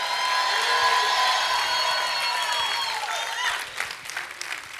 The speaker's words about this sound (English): Come on, let's clap it up again. Come on. Come on, you can yell a little bit. Come on, come on.